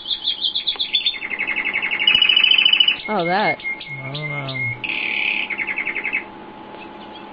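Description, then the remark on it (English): Canaries singing in rapid, high-pitched trills and warbling chirps, with fast repeated notes and swooping rolls that run almost continuously, while a voice briefly speaks. “What's with the canaries, man?”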